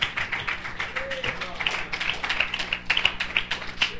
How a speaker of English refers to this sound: Can we give the Lord a hand clap of praise? Hallelujah.